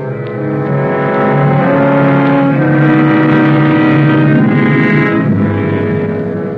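A car engine runs steadily, a loud continuous droning hum with shifting tones as it drives along, with no voices.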